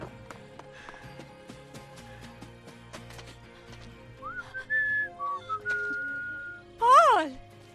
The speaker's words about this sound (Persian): صدای سوتتو شنیدم.